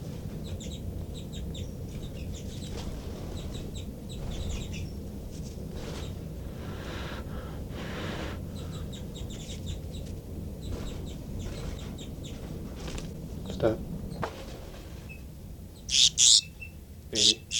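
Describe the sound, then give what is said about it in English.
Thin, high-pitched alarm calls of a baby bird repeat through a dense, continuous chorus of chirps and clucks, ending with a few louder, sharp squawks. “Start recording alarm calls of a baby bird.”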